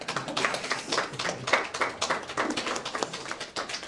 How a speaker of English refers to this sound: I appreciate that smattering of applause. I'm just plagiarizing the word. But I appreciate it.